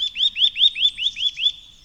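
A nuthatch repeats a bright, rising tuit call about seven times in steady rhythm, each note clear, with only faint low background rumble beneath.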